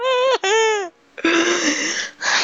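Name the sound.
person crying and whimpering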